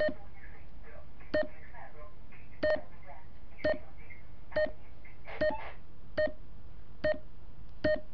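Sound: morse code beeps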